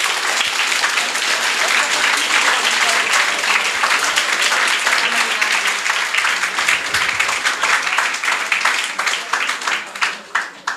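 Loud, sustained audience applause for a team after their prototype presentation on stage, made of dense, crackling handclaps, holding steady for about nine seconds before individual claps become more distinct and the clapping begins to thin out at the end.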